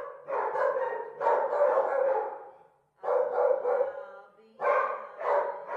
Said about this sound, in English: When I see the dogs early in the morning and they're barking, and I love that, and it just touches my heart.